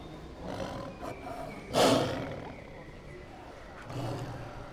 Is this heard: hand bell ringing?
no